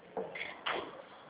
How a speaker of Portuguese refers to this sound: Tá passando muito carro, a gente fechar a porta aqui pra mim. Eu não tô escutando direito aqui. Só um pouquinho, vou fechar a porta aqui.